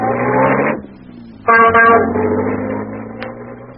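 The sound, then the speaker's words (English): An old taxi's engine drones and rumbles steadily at a low pitch on the way to the Taj Mahal, interrupted by a loud, brassy horn honk about midway through before the engine noise carries on. “So I hailed one of the ancient and unlikely taxis that paid the tourists.”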